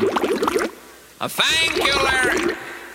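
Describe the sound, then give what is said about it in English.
A loud bubbling water sound effect comes in two stretches of gurgling with a short pause between them, and no one speaks over it. “The bubbles don't come till the end of the program. Turn off the bubbles.”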